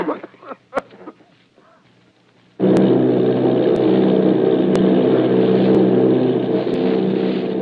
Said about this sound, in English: Army bombing plane V-843 off Bayonne, New Jersey. Lieutenant Vogt commanding 8 bombers, reporting to Commander Fairfax Langham Field.